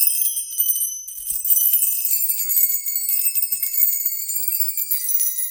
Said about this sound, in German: Kastlungers Erfindung, der sogenannte Bella-Schlauch, der in einer Fahrradfelge montiert ist. Dieses Instrument heißt Bella Schlauch, weil die Schlüssel an einem Schlauch hängen, aber das Lied ist eben das bekannte Bella Ciao.